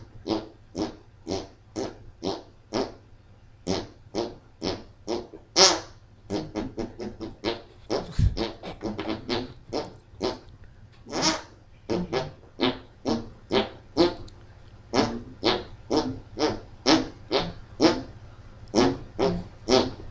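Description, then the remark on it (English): Rapid, rhythmic armpit fart noises squelch out the Jeopardy theme tune, dozens of short wet bursts in a steady melodic pattern, loud with no talking. “Recognize that it's armpit fart noises set to the Jeopardy theme, which could only mean we are here to play Jokerty.”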